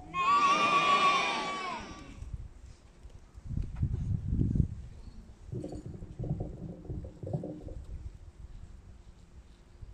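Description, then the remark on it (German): A donkey, an ox and sheep in a stable call out one after another: a loud, wavering bleat first, then low rumbling grunts and a drawn-out, deep lowing call, with no talking. “Schlaf gut, mein lieber Esel. Schlaf gut, mein lieber Ochse. Schlaf gut, ihr lieben Schafe.”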